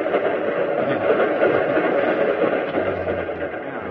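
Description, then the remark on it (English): A train pulls out heading north, rolling along with a steady, dense rumble and clatter, a continuous wash of mechanical noise that stays loud throughout, with a low hum rising near the end. “So he goes ahead and makes another big mistake as our train pulls out for the north.”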